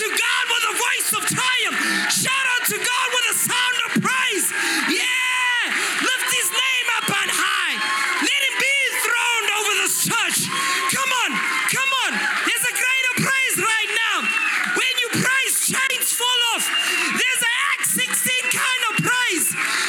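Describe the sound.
An audience in Lancaster shouts and cheers in praise of Jesus, many voices whooping and calling over one another in a loud, continuous roar with rising, excited cries throughout.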